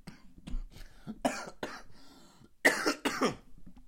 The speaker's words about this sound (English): Coughing!